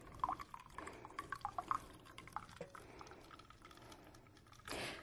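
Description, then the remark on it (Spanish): Hot water is poured from a cooking pot into a glass to make a salt-water gargle, with small splashes and light clinks at first, ending in a short steady rush of liquid. Moderately quiet, with no talking. “Por eso vamos a usar el agua caliente de esta olla.”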